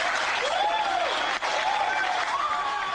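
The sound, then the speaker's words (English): Attendees at Winter Soldier applaud as a Marine veteran strips his medals and ribbons from his chest and throws them into the audience, a dense, continuous wash of clapping for about three seconds with a few rising and falling whoops or whistles riding over it. “stripping his medals and ribbons from his chest and throwing them into the audience to the applause of attendees at Winter Soldier.”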